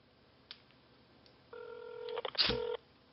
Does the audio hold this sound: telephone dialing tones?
yes